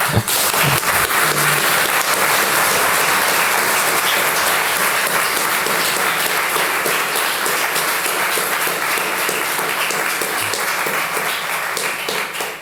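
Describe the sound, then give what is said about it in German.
Sustained applause from an audience after a 51-minute talk, a dense, steady wash of many hands clapping at an even loudness for over twelve seconds, fading slightly at the very end. “Ja, ein großartiger Applaus und ein großartiger Vortrag, der auch dazu sehr gut passt.”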